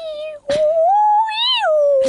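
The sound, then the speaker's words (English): A woman imitates humpback whale song with a long, wavering moan that slowly rises and falls in pitch, framed by short breathy bursts at the start and end. “does a good impression of a humpback whale.”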